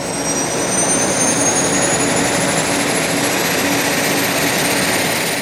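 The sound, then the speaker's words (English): A Piper Meridian turboprop plane's engine roars loudly and steadily, a high turbine whine climbing in pitch as it powers up for takeoff from a snow-covered airport at 6:45 p.m. Eastern Time, bound for Destin, Florida. “It was 6:45 Eastern Time when he took off.”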